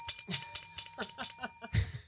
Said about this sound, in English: We need better bells. That just sounds so pathetic. That sounds like a bell that's like taking its last gasp of air before it goes to bell heaven.